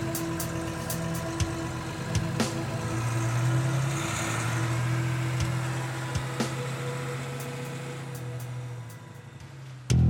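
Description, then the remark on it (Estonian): An off-road car with a glass hood is driven at full speed at night over dead riverbeds and between chalk cliffs, its engine droning steadily, a continuous low hum with a mid-range rumble and occasional faint clicks and knocks, moderately loud. “Pekk sõitis täiskäigul üle surnud jõe sängide ja kriidipuru pillangute kaljude vahelt läbi.”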